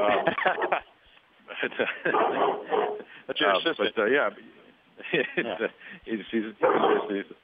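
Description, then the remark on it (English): A dog barks at something at the door in several loud bursts separated by short pauses, the barks sounding muffled and somewhat whiny. “He's got something at the door.”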